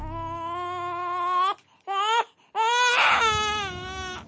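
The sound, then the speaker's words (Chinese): A newborn baby, the infant Jesus in a Nativity story, cries loudly from a stable in Bethlehem in three sustained wails separated by brief breaths, the last one strained and harsh. No one speaks. “由马棚传嚟婴儿诞生嘅声音”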